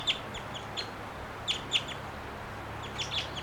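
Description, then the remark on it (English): A wild bird coming down a tree gives short, high chirping calls, some in quick pairs, spaced irregularly over a few seconds against a faint, steady outdoor hiss and low hum. No one speaks. “I'm watching that bird. He's coming down too.”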